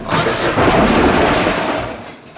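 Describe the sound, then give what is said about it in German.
Loud rumbling crash as an elevator grinds into a sudden emergency stop to zero, with a woman's head slamming heavily against the ceiling, the noise holding for a couple of seconds before easing off. “Plötzliche Notbremsung auf null.”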